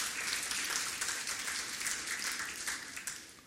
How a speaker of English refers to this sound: Now guys, if you want to clap, give the Lord a big clap. Yeah.